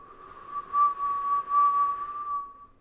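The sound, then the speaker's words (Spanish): A single long, delicate whistle held at a steady pitch with slight wavers, a person imitating a birdcall as part of a vocal practice exercise. It is soft and alone, with no talking. “Estos sonidos son, primero, un silbo largo y delicado, como el de las aves.”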